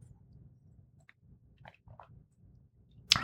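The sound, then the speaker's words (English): Steady chewing of a meatball, eaten alongside a beer: soft, moist, rhythmic mouth sounds with a few small squishes, ending in one sudden sharp, loud clack. No one speaks. “Yeah, it's pretty good with the meatball.”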